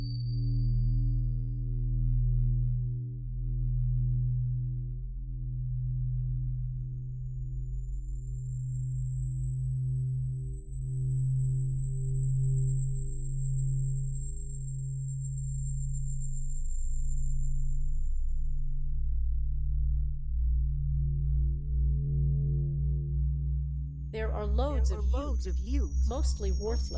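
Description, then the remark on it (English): Generated electronic tones: a steady low buzzing drone with a thin high whistle gliding over it, then a sudden flurry of rapid, chattering beeps near the end. “Mostly worthless functional electronic bits. It's the oddest mystery and detritus of a Morse code machine.”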